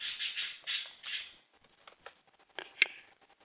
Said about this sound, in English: Oh, I heard something. I'm just typing in chat.